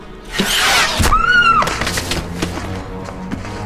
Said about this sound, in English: Later, as Marion is passing by, a maid is shot with an arrow.